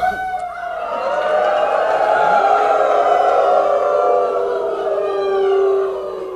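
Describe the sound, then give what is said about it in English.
A crowd of a few hundred people who just watched the film Medicine of the Wolf howls together like wolves in a call to Congressman Waltz about keeping protections for wolves in the Great Lakes; many overlapping voices rise and slide in long sustained wails that swell loudly for several seconds. “You're hearing the howls of a few hundred people that just watched Medicine of the Wolf and are calling you to ask you to keep protections for wolves in the Great Lakes.”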